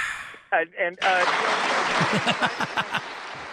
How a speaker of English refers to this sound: Yeah, can we get a little applause break for that? We should.